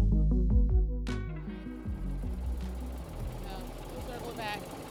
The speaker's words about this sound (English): Third, there we go, now we're going. Riding her tractor around her farm.